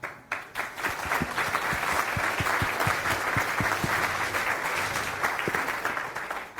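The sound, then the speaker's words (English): Steady applause from a sizable audience welcoming a speaker to give a talk on low-code graphical user interfaces in Python. Dense overlapping claps hold at a fairly loud, even level for several seconds before starting to thin out at the end. “Round of applause!”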